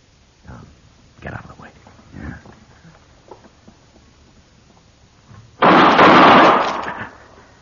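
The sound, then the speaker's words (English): A single loud gunshot bursts out and rings briefly before fading, following a stretch of faint, muffled voices and quiet shuffling. “How'd you know he was going to shoot me?”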